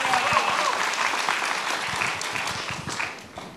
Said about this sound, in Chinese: 对，那我想要请他来分享一个，就是他在那个编辑这本书的时候所经历的一个见证。然后我们鼓掌来欢迎他，谢谢。